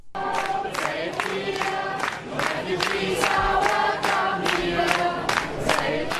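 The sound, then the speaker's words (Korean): A large crowd of residents of Saalfeld, Germany, sings a welcome song together in unison at a train station for refugees getting off the trains, loud, with steady rhythmic accents that could be claps, carrying on continuously without a break. “5일 독일 살페이트 주민들이 기차역에 내리는 난민들에게 환영 노래를 불러주는 것을 들어보시죠.”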